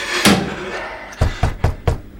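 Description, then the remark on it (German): Someone knocks on a door: one dull thump, a short pause, then four firm, evenly spaced raps, fairly loud, with no voices. “Jetzt hört er sogar schon ein Klopfen.”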